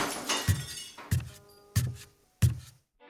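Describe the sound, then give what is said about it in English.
Glass bottles smash four times in quick succession in a room where a man is working, each crash a loud impact with a heavy thud and a bright, ringing splinter of breaking glass that fades before the next. “Suddenly, however, Mrs. Hall heard the sound of smashing bottles and heavy footsteps.”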